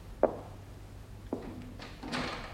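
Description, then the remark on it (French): A cleaning woman pushes a door shut: a sharp wooden knock, then a second thunk with a faint ringing latch, followed by a soft sweeping rush of air or movement. No one speaks. “La femme de peine ferma la porte.”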